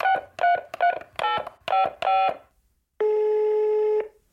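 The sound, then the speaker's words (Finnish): A telephone number being dialed to make a call: a quick run of seven short touch-tone beeps, each a different pitch, followed by a pause and then a steady, longer electronic tone lasting about a second, all clear. “joten hän päätti soittaa”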